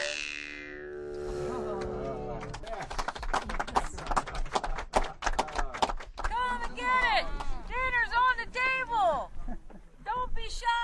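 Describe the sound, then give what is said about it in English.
Horse hooves clip-clop in a dense, irregular patter, like several animals moving, while voices or calls rise and fall over the hoofbeats as riders warm up their horses with encouraging calls, among hills with herds of horses. “We're looking at these beautiful hills of many colors and herd after herd of horses.”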